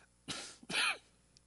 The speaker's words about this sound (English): Being outside in the wind yesterday, I was doing so good. I haven't had like coughing, losing my voice for so long.